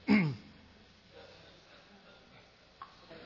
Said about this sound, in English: But I'm hearing all this coughing going on.